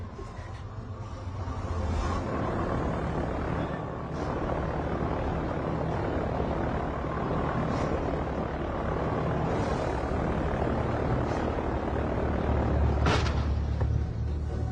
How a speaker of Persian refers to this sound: تو این هوا هواپیما میتونه بلند بشه؟ آره نگران نباش. همه چی مرتبه.